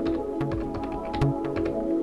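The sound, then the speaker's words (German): Quick clicks of keys tapped on a computer keyboard as the admin password is entered after running the pyroot command on Fedora Core, a short burst of irregular keystrokes over a steady low hum, with no one speaking. “Ich gehe auf Anwendung, Software hinzufügen, entfernen oder ich führe den Befehl pyroot aus, gebe das Admin-Passwort ein.”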